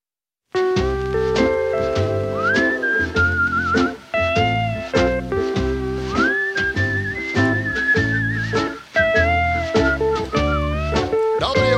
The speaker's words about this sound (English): You know, put a little whistle in a song, it becomes a hit. Yeah, just whistling in the wind.